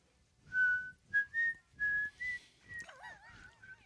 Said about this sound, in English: I'm just whistling.